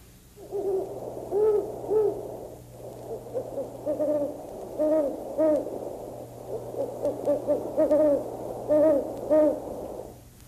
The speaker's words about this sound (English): Now the next one is a great horned owl. This is the way a great horned owl sounds.